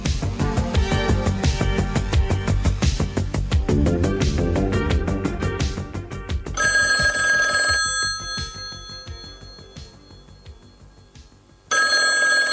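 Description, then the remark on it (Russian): A telephone bell rings loudly in long, shrill bursts, with a brief pause before it starts again, following a dense musical passage. No one speaks. “Алло, у телефона Сидни Бартлиби.”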